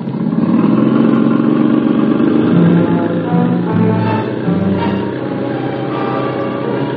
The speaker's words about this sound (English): The jeep driver tore off down the road.